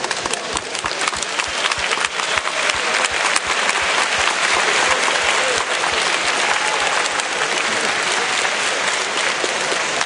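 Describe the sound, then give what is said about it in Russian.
A large audience applauds steadily to thank one another, many hands clapping in a dense, sustained roar that stays loud and even for the full length, with no speech over it. “Давайте поблагодарим друг друга аплодисментами.”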